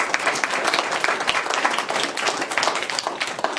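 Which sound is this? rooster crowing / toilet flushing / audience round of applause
audience round of applause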